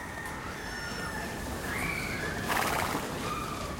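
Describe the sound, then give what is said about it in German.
Horse hooves from passing carriages clatter steadily along an old street with small taverns, workshops and old houses, with a horse's whinny rising briefly midway through a busy outdoor soundscape. “Hörst die Hufe der Pferde an den vorbeikommenden Kutschen.”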